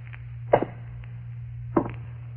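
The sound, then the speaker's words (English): Two slow, heavy invisible footsteps made by a ghost thud about a second apart over a steady low hum, each a muffled thump with a short scuff, ghostly and unhurried. “Hey, what about some invisible footsteps, eh?”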